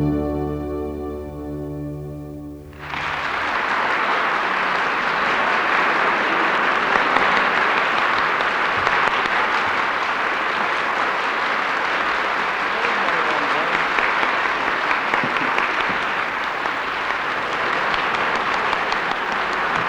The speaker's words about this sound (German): Meine Damen und Herren, Sie haben es natürlich gehört, am Applaus sofort. Er galt als Gruß für …, der nach langer Zeit wieder einmal bei uns zu Gast ist und auch bei uns zu Gast in der Sendung.